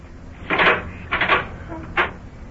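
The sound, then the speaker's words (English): An unlocked kitchen door of a house is opened: a couple of short wooden rattles and knocks, followed by a brief final clunk, with no one speaking. “Oh, kitchen door wasn't locked.”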